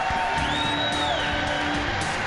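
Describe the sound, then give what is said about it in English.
A large crowd at the Bears Coaches Show on News Radio 780 WBBM roars steadily, with whoops and a high rising-and-falling whistle cutting through the dense cheering, loud and continuous throughout. “Listen to that crowd.”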